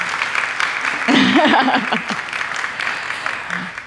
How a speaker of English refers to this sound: All right, let's give a little round of applause for our wonderful, wonderful panellists.